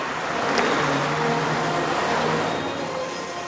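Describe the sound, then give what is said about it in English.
A car drives into the edge of a small town, pulling ahead of two trucks, its engine hum and broad road roar holding constant and fairly loud throughout, with no voices. “A little later, he drives into the edge of a small town, pulling ahead of the two trucks.”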